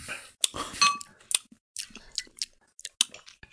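household object, clinking bottles

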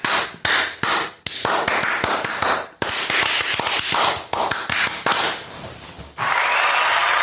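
human body sound, hands clapping

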